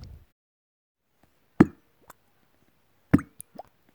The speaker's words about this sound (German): Wenn ihr das Wort Fische hört, nehmt ihr das kleine Gläschen und tunkt es einmal in das Wasserglas hinein. Das klingt dann so.